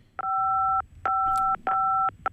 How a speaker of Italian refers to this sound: c'è un piccolo problema, nel senso che sta premendo i tasti del telefono mentre parla, per cui la sentiamo un po' maluccio.